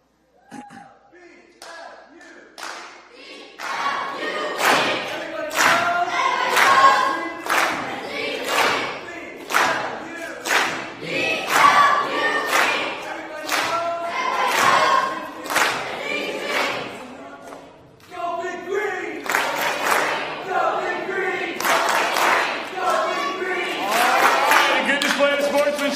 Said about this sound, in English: That means the victory ultimately goes to the blue team. Give your team a cheer. Very good. Good job. Blue, give your victory cheer. Here we go.